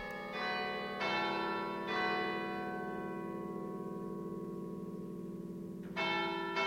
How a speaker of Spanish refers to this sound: el campanero golpea con precisión una serie de palancas dispuestas frente a él como un teclado. Ligadas a un cilindro de madera, las palancas accionan a su vez el badajo o mazo que hace sonar la campana.